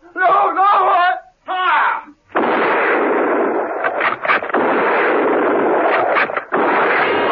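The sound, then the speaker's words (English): Anguished shouting and wailing cut off by a heavy burst of gunfire from a firing squad of troopers executing a man, a sustained roaring crackle with sharper shots punching through for several seconds. “Steed and Merlin heard the shots and, without a word, ran towards the garage.”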